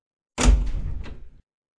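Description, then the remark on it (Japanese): A single heavy door in the next room of a house shuts with a loud, booming thud that rumbles for about a second before cutting off abruptly. No voices accompany it. “隣の部屋からお父さんの大きい声、お母さんの大きい声、そしてドアの音。”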